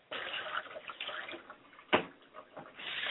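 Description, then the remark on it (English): Water poured onto the ground as a libation in a spiritual ritual to sanctify the ground, a steady splashing and trickling that runs for about three seconds, with one sharper splash partway through and no voices. “I pour water to the ground so that wherever we are, it is sanctified.”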